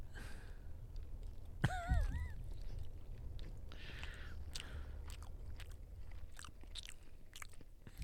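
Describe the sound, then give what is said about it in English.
Loud chewing of food right on the microphone, with wet smacks and crunchy clicks repeating steadily over several seconds, broken early by a brief wavering vocal murmur from the person eating. “Make sure you chew it right on the mic.”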